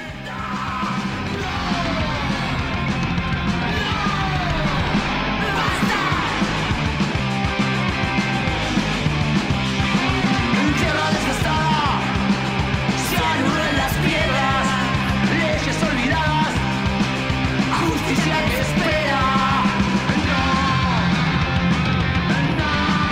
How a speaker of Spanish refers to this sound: Claramente tiene como digamos la energía del punk, ¿no? Ese, como el grito desesperado, como la necesidad de ser escuchado.